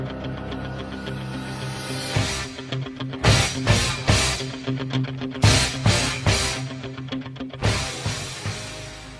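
A rock song plays loudly, with a steady sustained bass tone under sharp, punchy full-band stabs that hit in a repeating rhythmic pattern. No voices are heard.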